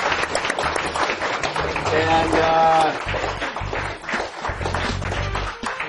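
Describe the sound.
An audience applauds a presenter at a developer event, steady for several seconds, a dense wash of clapping with voices mixed in and a brief tonal shout or cheer rising above it partway through.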